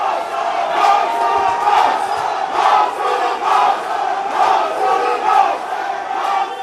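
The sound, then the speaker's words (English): A football crowd at a Hekari match against the Solomon Kings on a rainy Sunday night chants loudly in unison, many voices rising and falling in a steady, rhythmic pulse that repeats every second or so without pause. “But he couldn't drown out the chants.”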